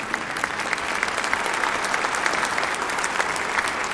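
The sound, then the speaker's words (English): A crowd applauds steadily throughout, a dense, even patter of many hands clapping at once, fairly loud and sustained with no voices standing out. “Which is the, yeah, you can clap if you want.”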